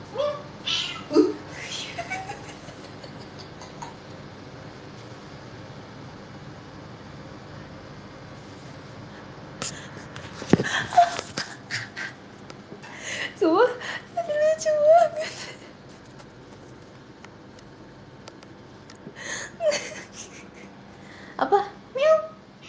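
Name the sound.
cat meowing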